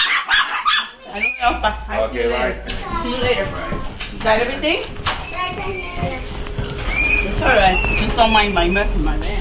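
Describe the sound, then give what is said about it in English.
Five Chihuahua terrier mix dogs bark and yap excitedly at a family home, their high-pitched barks overlapping in quick, irregular bursts over a low steady hum. “Their son, who's 3, stays home with his dad during the day, along with the family's bird and 5 Chihuahua Terrier mixes.”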